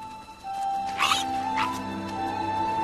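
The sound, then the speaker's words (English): At Allerdale, a wild boar sow gives two short, breathy sniffs, with faint rustling as a piglet tugs at grass, over a steady low background hum. “The mother sniffs, and a baby tugs at some grass.”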